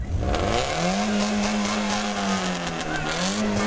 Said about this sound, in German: den alten VW T3 Bulli, haben 850 Euro Startgeld gelatzt und sind vom Hamburger Fischmarkt losgefahren